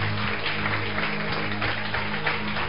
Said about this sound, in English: Clap for Jesus again. Praise way, clap.